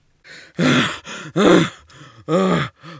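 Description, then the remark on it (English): Heavy, effortful panting from a person doing yoga after moving into downward dog: a string of about five strained, voiced breaths in an uneven rhythm, each tinged with a groan or sigh, with no talking. “You've got me panting like a dog.”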